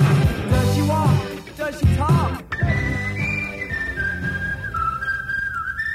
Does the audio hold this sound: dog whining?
no